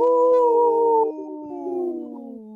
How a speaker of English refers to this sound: This portion of the show is supported by Howling for Wolves, protecting wolves for future generations. Howl!